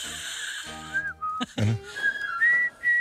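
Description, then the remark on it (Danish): The march theme from the film The Bridge on the River Kwai, whistled in a clear, high tone, a short run of distinct notes with brief pauses between phrases, with no one talking over it. “Enten er det temaet for broen over floden Kwai.”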